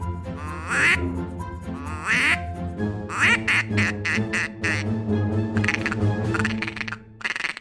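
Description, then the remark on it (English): A duck call instrument imitates mallards: a few loud, nasal quacks of the male and female mallard calls, followed by a rapid, continuous chattering of feeding ducks that trails off near the end. No talking. “It was the male mallard call, it was the female mallard call, and it was ducks feeding.”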